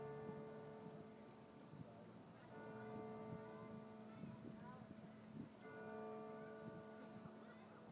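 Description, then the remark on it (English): Deep bells ring with long, humming overtones, fresh strikes landing at uneven moments so the peals overlap unevenly. A few high chirps come and go in the background. “Those bells are really not in sync.”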